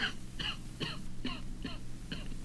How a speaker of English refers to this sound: You mustn't cough like that. It's bad for your throat. We don't want to get a sore throat on top of your cough.